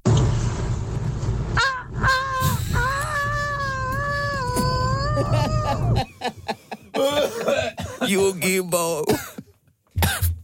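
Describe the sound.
A person imitates a rooster crowing with a long, wavering, strained vocal cry over background noise, followed by shorter choppy vocal bursts and a brief cough-like sound near the end.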